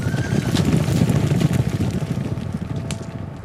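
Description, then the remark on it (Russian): A rested herd of horses, driven on by boys, gallops past, a dense, loud drumming of hoofbeats with a few brief whinnies rising above the steady rumble. No one speaks. “И вдруг мимо меня, погоняемый знакомыми мальчишками, промчался отдохнувший табун.”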